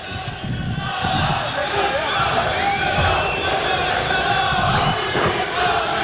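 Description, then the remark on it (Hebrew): A large crowd of Netanyahu supporters in Israel chants and shouts together in a steady, dense roar as election results come in, with voices rising in rhythmic bursts, loud throughout. “מה הם שרים שם? מה הם צועקים?”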